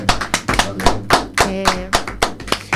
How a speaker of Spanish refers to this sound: Wow. Aplauso, por favor.